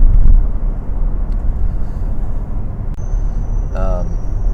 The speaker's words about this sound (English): Oh, there goes a train.